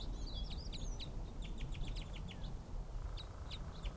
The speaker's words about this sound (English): Some other bird right above me.